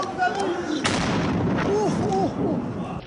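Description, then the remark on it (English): Loud bursts of gunfire from attackers and a heavy explosion crack out at the shrine of the late Ayatollah Ruhollah Khomeini in Iran, over a noisy, chaotic background, with people shouting and talking throughout. “But today, attackers sprayed bullets and set off an explosion, which this video posted online purports to capture.”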